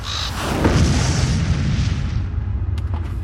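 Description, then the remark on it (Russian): A deep, heavy boom rolls out like a shock wave, its low rumble swelling loud and lingering for a few seconds before slowly fading, with no voices present. “Наступила тишина. Хрупкая, как первый лед на пруду, а потом ударная волна разорвала ее в клочья, сшибив с высот на землю птицу-мутанта, возможно, ворона.”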